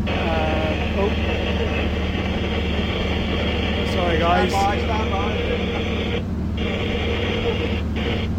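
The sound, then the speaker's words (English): Harsh VHF radio interference crackles and warbles over a steady engine drone running at about 3,000 RPM, fairly loud, near Torbay heading towards Paignton, while a man briefly speaks through the noise. “But that was just a bit of VHF interference there.”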